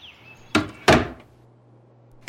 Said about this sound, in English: The door on the right opened, and Gaetano stuck his head through.